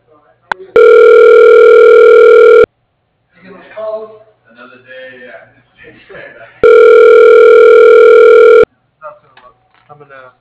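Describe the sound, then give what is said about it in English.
While on hold on a call to Young Threads, a loud, steady telephone tone sounds twice, each lasting about two seconds, with a stretch of speech in between and a short burst of talking afterward. “Please hold the line and a representative will be with you shortly.”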